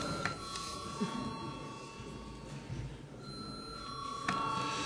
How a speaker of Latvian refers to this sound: Deputātiem nav iebildumi, deputāti neiebilst, lūdzu zvanu.